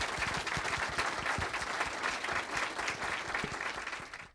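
The audience at a Politics and Prose bookstore author event applauds the speaker once more after the last question. The applause is a steady, dense crackle of many hands clapping at an even, fairly loud level, and it tapers off at the very end.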